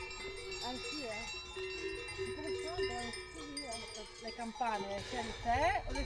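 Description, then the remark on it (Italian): A dense, steady jangle of many small bells rings from a flock of grazing sheep, with wavering bleats rising over it and a louder burst of bleating toward the end. “Ma com'è che sceglie la campana, il suono?”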